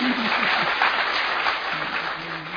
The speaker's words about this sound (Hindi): अभी अपने लिए ताली बजाओ।